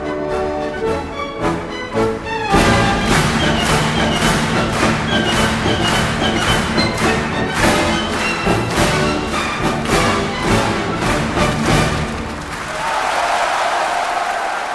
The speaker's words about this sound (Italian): Anche il direttore che per la marcia di Radetzky lascia il podio, si mischia al pubblico per dirigere quasi più che l'orchestra il battimani della platea.